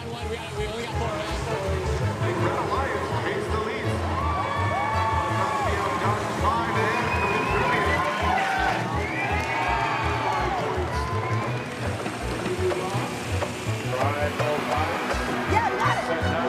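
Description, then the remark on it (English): A large crowd cheers and yells continuously in the stands at a robotics competition, a dense roar of many voices with shouts and whoops rising above it, steady and loud throughout. “When you're up in the stands, you're cheering not for a team that you like, you're cheering for your team that you put work into.”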